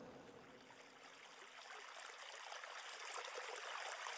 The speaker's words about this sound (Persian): حضرت عباس با دشمنهای زیادی روبرو شد و همگی را دور کرد و از بین همهشان رد شد تا بالاخره به کنار نهر آب رسید.